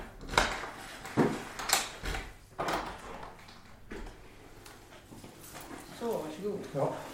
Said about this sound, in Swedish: Tiden segar sig fram och efter kanske 10 minuter knackar det på och dörren öppnas.